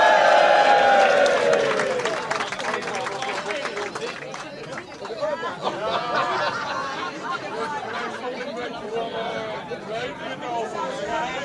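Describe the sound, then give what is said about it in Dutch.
An audience applauds steadily for a performer coming on stage without music, a dense wash of clapping mixed with cheers and crowd chatter, loudest at the start and continuing for about eleven seconds. “En denk eraan, dit is de laatste keer, dus een geweldig applaus voor hem.”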